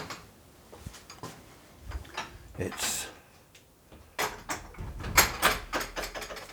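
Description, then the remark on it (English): The wooden door of a bird hide being opened: a series of knocks, clicks and scraping rattles from the latch and hinges, with a louder cluster of bumps as it swings near the end. “I'm going to go inside, see what's in there. Let's open the door.”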